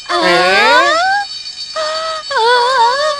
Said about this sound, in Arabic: ومن أين هذا الصوت؟ إنه جهاز الإنذار.